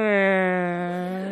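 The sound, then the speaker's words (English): A single voice imitates a creaking door opening with a drawn-out, buzzy tone that sags slightly in pitch over about a second, fairly loud with nothing else around it, mimicking the doors of a dungeon area on a spooky tour. “And even the doors,”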